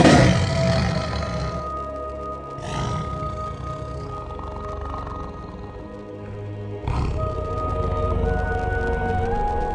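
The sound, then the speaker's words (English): A tiger on a lifeboat roars loudly, with several deep, rasping roars repeating over about ten seconds against a steady low rumble. No one speaks. “I am on a lifeboat alone with the tiger.”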